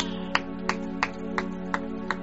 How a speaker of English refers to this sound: Clap your amen.